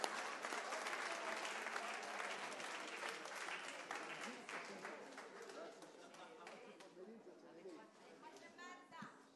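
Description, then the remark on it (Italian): An audience claps loudly in dense, continuous applause that gradually thins and softens over several seconds, with murmured voices and a few scattered claps trailing at the end. “Facciamo un applauso.”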